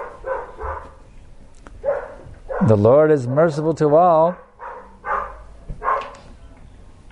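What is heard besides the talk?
dog barking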